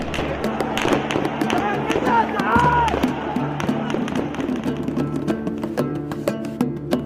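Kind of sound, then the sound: impact, gunshots fired by security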